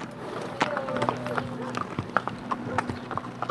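horse hooves clip-clopping

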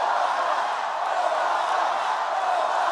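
crowd cheering

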